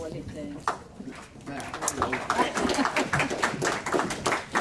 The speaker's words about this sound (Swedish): Och Johanna Svensson. En applåd för Johanna.